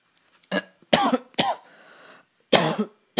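coughing

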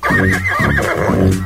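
horse whinnying

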